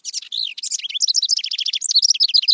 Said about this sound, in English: The house wren is a remarkable songbird, successful across two continents, highly adaptable, and a steady and songful presence in our lives.